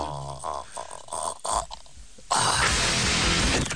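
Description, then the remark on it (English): A man imitates the dying last gasp of Larry Flint, the soul going out of him, with his voice: a couple of seconds of halting, gurgling croaks, then a loud, harsh, breathy rasp that holds to the end. “This is his last gasp. It's going out of him.”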